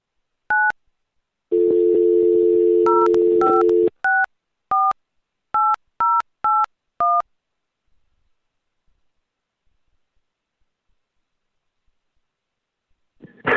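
A short touch-tone beep, then a steady dial tone for about two seconds, followed by a quick run of about nine keypad tones in an irregular rhythm, loud, with no voices; an extension being dialled on the Black Ratchet PBX phone system.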